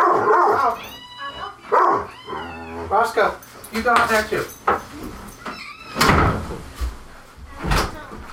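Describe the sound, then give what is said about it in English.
A dog barks several times, its sharp yelps and drawn-out whining cries coming in uneven bursts, with a couple of loud thumping knocks near the end. “Now the dog's barking.”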